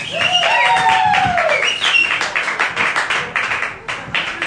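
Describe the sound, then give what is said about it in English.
A crowd applauds the head coach of the Frederica Academy Knights, three-time GISA champions, with dense, steady clapping that holds for several seconds, with a few rising whistles or whoops over it near the start before the clapping gradually thins. “We're clapping again, so.”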